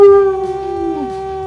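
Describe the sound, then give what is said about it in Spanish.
A person imitates a wolf howl on the Monday morning show Fuera del Control: one long, loud, sustained wavering tone, gently bending in pitch before sliding down near the end. “no sería posible sin el lobo de cumbres”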